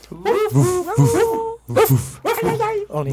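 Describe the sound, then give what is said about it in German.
Several people take turns mimicking a dog with their voices to say goodbye, a quick run of yippy barks and drawn-out whimpering whines, loud, with brief pauses between the bursts. “Und ehrlich gesagt, finde ich, sollten wir jetzt es unserem Gast gleich tun und nur mit Hundegeräuschen Tschüss sagen.”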